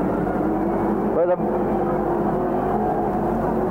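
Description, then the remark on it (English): The third-place race car, car number 7 driven by Bill Burden, whines briefly as its engine zips past, its pitch sweeping quickly, set against a steady, dense roar of track noise that continues throughout. “There goes the third place car, car number 7, Bill Burden.”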